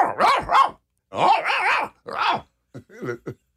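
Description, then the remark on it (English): A person mimics a dog, letting out a few loud barks and woofs in short bursts with brief pauses, trailing off into a softer, choppier final yap. “So you all would bark?”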